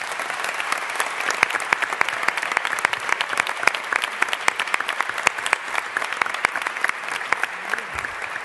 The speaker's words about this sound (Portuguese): Sendo que assim peço uma grande salva de palmas para eles, já que são merecedores tal como nós.